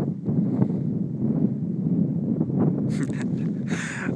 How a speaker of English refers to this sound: Wind on my face, the cold icy chill on my fingers, the distant banging from the cement works in the Hope Valley.